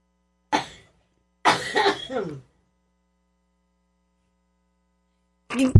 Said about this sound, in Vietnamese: … ho một chút xíu, xin cáo lỗi quý vị.